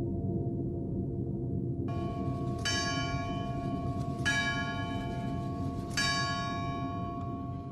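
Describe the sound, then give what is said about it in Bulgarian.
The bell of a 250-year-old clock tower in Berkovitsa, Bulgaria, marking the full hour, strikes three slow, evenly spaced times, each blow ringing out with bright, lingering overtones over a constant low rumble of background noise. No one speaks. “едно от най-интересните неща, свързани с тази часовникова кула, че тя въпреки тези 250 години, които са я вписали в историята на страната ни, този часовник продължава да отмерва времето безгрешно. Да, на всеки кръгъл час.”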